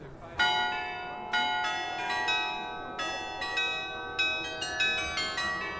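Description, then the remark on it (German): The carillon of the old town hall on a market square rings out a melody, a series of struck tuned-bell notes with long overlapping resonance, clear over a faint outdoor background hum. “Im Zentrum der kleinen Fußgängerzone ist der Marktplatz mit dem alten Rathaus und seinem Glockenspiel.”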